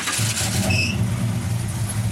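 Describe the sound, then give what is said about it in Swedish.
An American Chrysler car engine starts up with a brief rough burst, a short high squeal, then settles into a steady, deep rumbling idle, fairly loud, on a mild, drizzly Midsummer Eve evening. “Det finns ingen bil som har sånt ljud som en Chrysler.”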